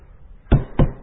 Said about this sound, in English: Oh, I hear you knocking, Lord. Come in. Come in. Why standest thou without?